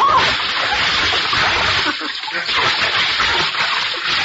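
A loud burst of splashing water in a swimming pool that churns steadily for several seconds, like someone plunging in and thrashing about, with a brief lull midway before the splashing picks up again.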